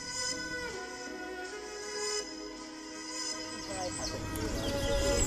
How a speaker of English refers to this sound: He is covered in bright green, rose-necked parakeets.